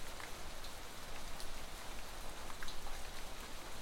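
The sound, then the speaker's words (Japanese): Steady rain falls in a dense, even hiss, with scattered brighter drops ticking on a surface now and then. No voices, just a continuous moderate downpour. “皆様とせっかくのお出かけでしたのに、雨に降られてしまいましたね。”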